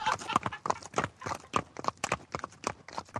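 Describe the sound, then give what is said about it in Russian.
Horses gallop off with a rapid, uneven clatter of hoofbeats, a dense run of sharp thuds at steady volume for a few seconds, with no voices. “Братья только посмеялись над ним и ускакали.”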